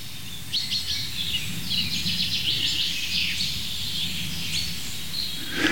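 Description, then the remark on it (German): A bird gives an agitated series of short, sharp 'pink' calls, repeated rapidly, over a steady low outdoor rumble with no talking. “Pink, pink, pink. Ist irgendwie ein bisschen aufgeregt, der Kollege.”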